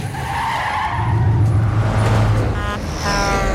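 Busy street traffic roars steadily, with a low engine drone from passing vehicles, a sharp tire screech, and a brief high tonal blare near the end, all loud and continuous.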